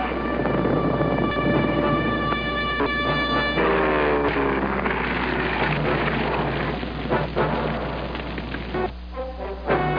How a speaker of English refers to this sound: In April 1940, this invasion came, the scream of planes and the thunder of heavy bombs, as a nation whose only offense was that it lay in Hitler's path was ground under the conqueror's boot.